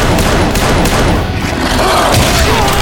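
A rapid volley of gunfire in a fight crackles loudly and continuously, with booming thuds layered over a dense, chaotic background of shots for the full few seconds.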